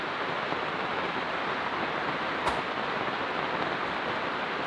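Heavy, intense rain pours down in a steady, dense hiss that never lets up, with one brief sharper tap partway through. No one speaks.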